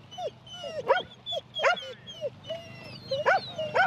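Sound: sheepdogs barking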